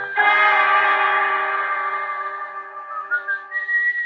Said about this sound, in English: And then I heard the whistling.